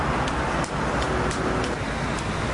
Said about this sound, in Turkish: Trafik.